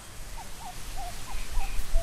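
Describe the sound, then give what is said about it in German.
A series of short, whistled bird calls from birds in a reed marsh where the Ural River flows into the Caspian Sea repeats at a steady pace over a low, breezy rumble of warm wind in 4-metre-high reeds, with a few thinner, higher notes mixed in, fairly soft. “Wo der Fluss Ural ins Kaspische Meer mündet, wiegt sich 4 Meter hohes Schilf im warmen Wind. Vögel brüten im Röhricht.”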